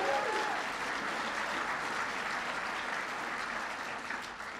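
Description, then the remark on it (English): An audience applauds Kim Teehee, senior advisor for Native American issues, and Jody Gillette of the Intergovernmental Affairs Office, with a dense, steady wash of clapping that holds strong throughout and eases off slightly toward the end; no one speaks over it. “You can give them a big round of applause.”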